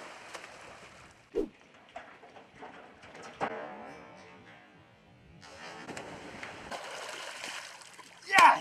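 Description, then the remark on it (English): Outdoor water sounds at Gun Lake with sloshing and splashes, including a sharp splash near the start and a louder burst at the end as a person tries to leap across the lake in one jump; faint bird calls and voices in the background. “Okay, and what makes you think that you can get across Gun Lake here in one jump?”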